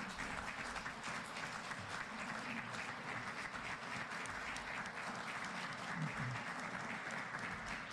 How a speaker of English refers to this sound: give him a warm hand of applause for his ministry.